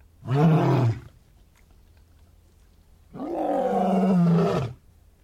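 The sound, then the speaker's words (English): A big male lion roars twice at sunset, loud and about 10 feet away, each deep rumbling call swelling and fading, with a short pause of quiet between them. “I managed to get within about 10 feet of a lion when the lions do the male lions do their big roar as the sun goes down.”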